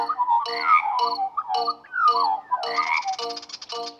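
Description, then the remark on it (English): Rhythmic chirping pulses repeat about twice a second, clear, with a warbling tonal sweep weaving through them. Sounds like crickets chirping, with no voices present. “The crickets are playing cricket, cricket in the creek.”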